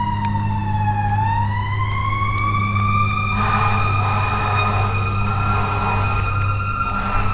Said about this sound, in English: Far off in the distance, I can hear sirens of emergency vehicles passing on West Maple Road.